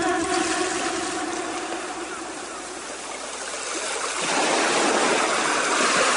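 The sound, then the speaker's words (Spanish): Sea waves wash steadily against the shore in a continuous hissing rush, swelling louder toward the end as a new wave rolls in. No voices are heard. “Soñé que estaba yo con mis primas gaviotas a la orilla del mar.”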